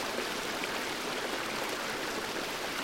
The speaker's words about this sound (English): Now let the sound of water sink into your stomach.